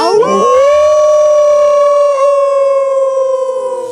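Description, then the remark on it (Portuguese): Several people howl together like wolves in a collective howl after a count of one, two, three, a loud, sustained, wavering cry that starts in a ragged burst and then holds one steady pitch for a few seconds before trailing off. “E acho que pra terminar merece um uivo coletivo.”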